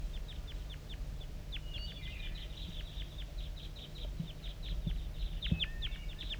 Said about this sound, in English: I'm getting a lot of calling from the decoys, and those are chitter notes of the wild bird.